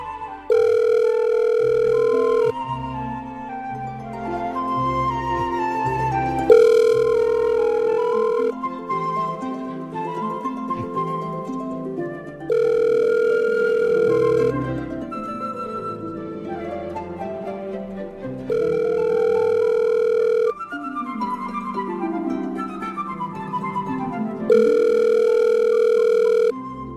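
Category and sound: signal or alarm, outgoing phone call ringing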